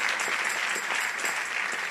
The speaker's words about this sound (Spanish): Si ese es el aplauso, déselo más fuerte al Señor.